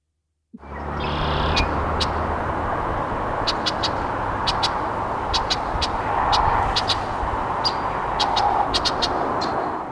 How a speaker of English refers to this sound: Okay, so let's start off by hearing Blackbird Redwing. Here we go.